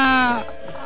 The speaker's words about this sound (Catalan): els bogadors, doncs, estan, no sé si el sentiu de fons, cridant. El sentim.